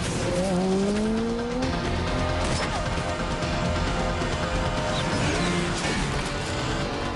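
Loud, continuous engine roar from motorbikes speeding between trees in a chase, with high screeching skid squeals, a rising whine early on, and rough scraping bursts as a bike brakes hard and spins against a tree. No one speaks.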